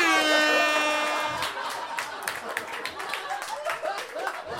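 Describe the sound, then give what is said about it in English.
A loud, steady air horn blast blares for about a second and a half, then fades into a crowd clapping and cheering. “Can we turn the air horn up just a smidge?”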